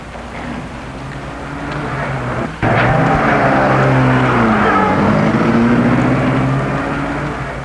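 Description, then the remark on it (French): A car engine idles steadily, a sharp thump like a door shutting cuts in as a woman gets into her car, then the motor revs up and she drives away, its drone shifting in pitch and easing slightly at the end. “Se tend la main et elle entre dans sa voiture.”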